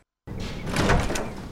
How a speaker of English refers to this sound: Entering the garage, Brody turns on the lights and locks the door behind him.